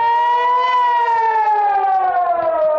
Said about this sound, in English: Residents in Metula, Israel's northernmost town, rush inside whatever reinforced room offers seconds of safety. The sirens of incoming Hezbollah rockets or missiles provide only 15 seconds of warning.